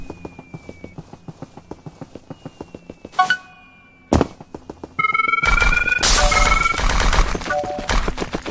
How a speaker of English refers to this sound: Bomb storm. Coin. It's a bunch of bombs.